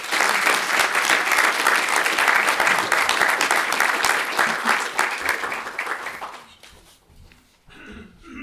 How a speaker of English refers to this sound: Thank you very much for being here. Please join me in giving her a round of applause.